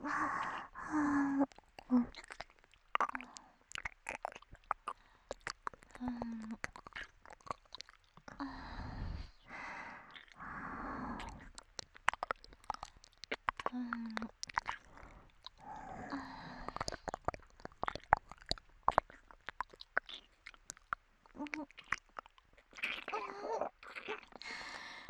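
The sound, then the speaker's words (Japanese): Wet, slurping mouth sounds like ear licking, with irregular clicks and smacks spread throughout, mixed with soft breathy sighs and moans. “お耳舐められるとぐちゃぐちゃやらしい水音のあったかい時もダイレクトに脳まで届いちゃうもの。”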